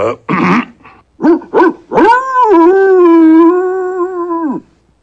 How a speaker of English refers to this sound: Two woofs, one yip and a woof. It sounds like puppies, sir.